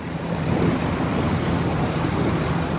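A boat motor drones steadily beneath the Bay Bridge, its low hum blending with loud, continuous rushing water and wind buffeting the microphone, with no voices.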